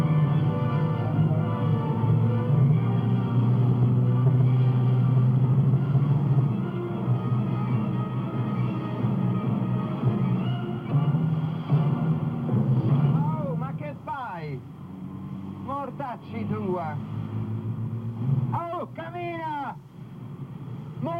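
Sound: city traffic jam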